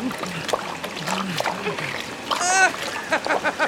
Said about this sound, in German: Nein, die Badewanne läuft voll Wasser. Der Ballon sinkt. Schnell, wir müssen das Wasser rausschöpfen mit unseren Helmen. Los!